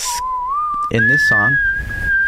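A giant organ with three sets of keys, of the kind played in pizza restaurants, imitates a train whistle at the start of a song: a steady, piercing tone that slides up to a higher pitch partway through and holds, with a short burst of richer, buzzy notes layered over it.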